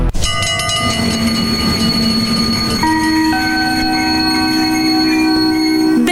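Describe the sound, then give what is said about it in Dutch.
A train rolls into Den Haag Centraal station, its loud steady rumble overlaid with high whining, squealing tones from wheels and brakes that hold and shift pitch in steps as it slows. No voices. “we naderen station Den Haag Centraal.”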